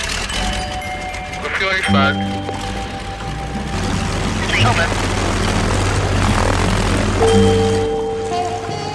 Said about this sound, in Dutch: Micha, zet je helm op. Start de motoren.